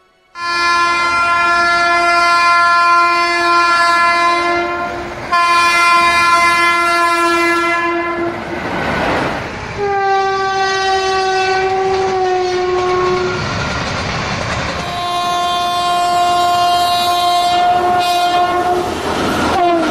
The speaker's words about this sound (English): The train. The mighty war cry of this creature strikes terror into the heart of every Pajit.